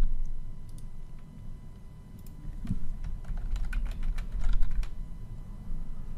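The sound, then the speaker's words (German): Quick, uneven keystrokes tapping on a computer keyboard as a name is typed for a group of apps, a burst of clicks over a low background hum with no one talking. “Sobald ich eine App markiert habe, erscheinen mir die Kästchen, in denen ich der Gruppe einen Namen geben kann.”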